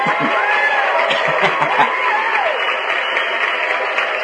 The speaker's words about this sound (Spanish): Ahí sí aplauden, no cuando dije lo de los 5 años, sino hasta ahorita, ¿verdad?